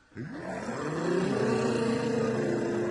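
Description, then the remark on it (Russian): A group of voices hums a steady, rising drone in imitation of jet airplanes, starting abruptly and holding loud and sustained to the end. “А гудеть вы умеете, как реактивные самолеты?”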